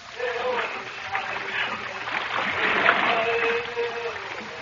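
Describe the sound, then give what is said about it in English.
Many paddles, worked by hundreds of warriors, splash and churn water in a steady, continuous wash as a fleet of Moro war canoes moves down a jungle river in Mindanao, in the radio show Jack Armstrong, the All-American Boy; a dense, moderately loud rush without distinct individual strokes. “A fleet of Moro warbeetas, paddled by hundreds of warriors, is coming down the jungle river in Mindanao to attack the Moro village of Cotabango, where Uncle Jim's schooner, the Spindrift, lies at anchor.”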